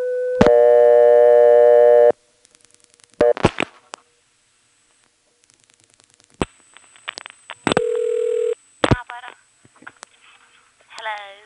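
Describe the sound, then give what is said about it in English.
A steady telephone dial tone drones for a couple of seconds, then gives way to clicks and brief electronic touch-tone key tones as 8 plus 0 is dialed on a coin payphone, clear. “Surprisingly, 8 plus 0 works.”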